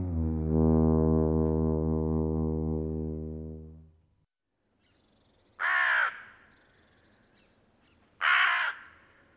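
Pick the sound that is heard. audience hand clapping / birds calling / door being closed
birds calling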